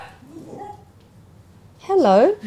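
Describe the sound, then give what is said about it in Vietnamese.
A dog lets out a loud, wavering whine-yelp near the end, rising and falling in pitch for about half a second after a quiet stretch with faint murmuring. “Hay có chó với mèo vào trong.”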